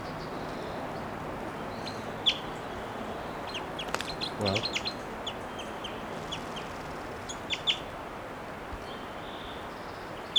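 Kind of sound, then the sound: bird, wild bird calling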